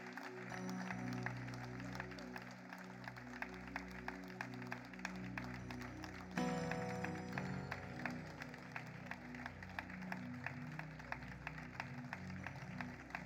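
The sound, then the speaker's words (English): An audience on its feet claps steadily and loudly to welcome a guest pastor, a dense patter of many hands keeping a fairly even rhythm, with sustained keyboard-like music playing underneath that shifts partway through. “Let's keep clapping.”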